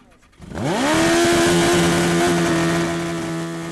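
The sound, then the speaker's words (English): A faded old Yamaha motorcycle with a floppy tire sputters to life on a grassy area next to a dealership, watched by a crowd of about 100, and revs up, then settles into a loud, steady idle with a rough, throbbing tone, continuous to the end. “The faded Yamaha with its floppy tire is led out to a grassy area next to the dealership.”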